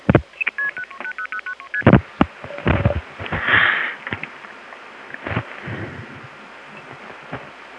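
A rapid series of touch-tone beeps as a phone number in Beaufort, North Carolina is dialed, about a dozen short tones in quick rhythm, followed by clicks, a thump and a brief ringing tone fading into line noise.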